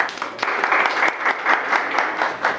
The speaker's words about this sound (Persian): جزء در واقع 3% فرهیخته جامعه هستید و من خوشحالم که در خدمتتون هستم. خواهش می‌کنم خودتون رو تشویق کنید.